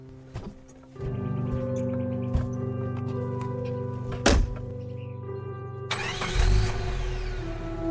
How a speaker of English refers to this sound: waved as the truck took off and disappeared over the hill.